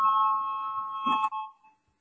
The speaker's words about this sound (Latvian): Lūdzu zvanu, balsosim par trešo tieslietu ministra Bordāna priekšlikumu.